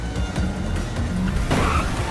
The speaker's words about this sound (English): They swerve around the small three-wheeler and Lucian barges their pursuer again. They make a turn and get rammed from behind. Three cars are now on their tail.